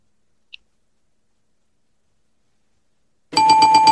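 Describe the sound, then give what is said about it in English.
After a long quiet stretch with one tiny click, a loud bell suddenly rings in rapid repeated pulses, harsh, continuing to the end with no talking. “Watch with the fucking bell. Stop at the bell. I don't like the bell.”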